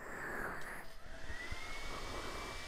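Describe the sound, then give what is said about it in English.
A hairdryer blows steadily throughout, a continuous rushing whoosh of air with a thin motor whine on top, even in level, with no one talking. “If you use the hairdryer, I'm covering my ears, though.”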